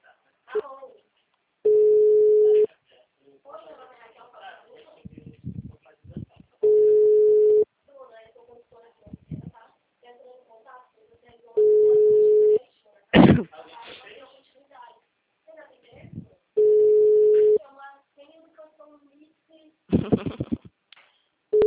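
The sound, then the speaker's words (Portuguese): A phone's ringing tone sounds four times, each a steady, mid-pitched hum lasting about a second and repeating every five seconds with no answer, while people talk and a few sharp thumps fall between rings. “Tô ligando, ele não atende?”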